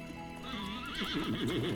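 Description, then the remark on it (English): A horse lets out a long, quavering whinny that rises and wobbles in pitch, while carriage hooves clop steadily underneath as the horse-drawn carriage rolls through a tree-lined neighborhood. No one speaks. “As her carriage rolled through the tree-lined neighborhood, she marveled at the gorgeous new villas nestled among the stately old brick mansions.”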